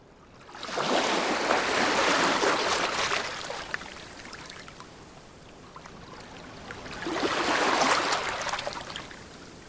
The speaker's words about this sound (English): At Shelley's Casa Magni, Lerici. Now the sea has lost its light, the underside of waves could be the stone of the castle, or stone wearing still at the bottom of the bay.